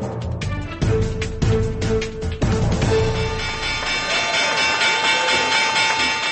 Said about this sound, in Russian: Звук колокольчика, извещающего о закрытии торгов на Нью-Йоркской бирже в понедельник, на практике определил то, что экономисты назвали 11 сентября в экономике.